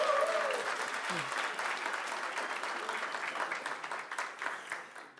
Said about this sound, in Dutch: Dankjewel, goed gedaan. Applaus.